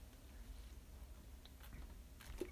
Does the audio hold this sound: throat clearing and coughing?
no